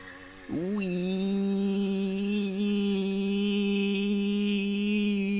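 A tiny motorbike going up a canal buzzes in a loud, steady drone after a quick rev at the start, its nasal whine holding an even pitch throughout with no talking.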